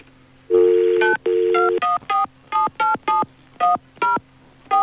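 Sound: telephone number being dialed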